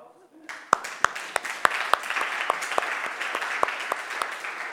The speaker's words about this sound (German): Ja, wir können noch viel klatschen heute.